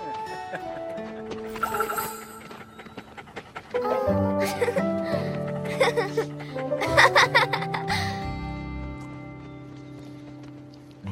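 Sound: dog panting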